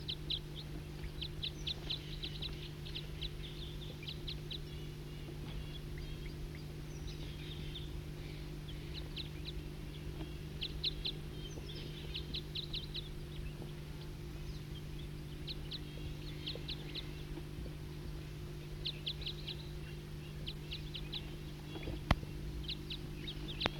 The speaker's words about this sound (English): Start recording a wild bird.